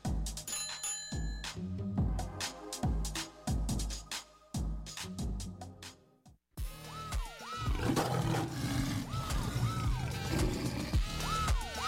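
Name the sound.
lion roaring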